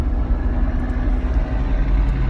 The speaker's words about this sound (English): I'm sure you guys can hear the big rig blaring as we're bumper to bumper traffic. Sorry about that.